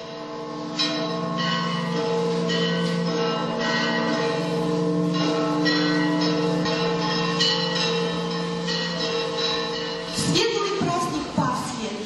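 Orthodox church bells peal continuously and loudly for Easter, several bells overlapping in a dense, ringing wash with repeated strikes and long sustained tones, no voices heard.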